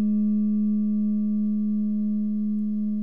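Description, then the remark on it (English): A Tibetan singing bowl rings with a steady, sustained hum, its deep fundamental tone layered with faint higher overtones, sounding clear as it slowly fades over a few seconds. “Now the bowls are coming. Tibetan bowl coming out for you here”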